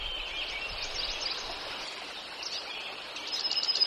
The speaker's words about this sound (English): Yet he likes to walk the roads of rural New England, pointing out birds of the open country, white-throated sparrows and bluebirds.